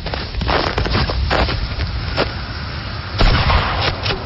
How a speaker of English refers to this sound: Smokes! That's the fourth straight kill shot. I've been getting in some practice. Is that a new rifle, too? Yep. Traded for it. Make that five.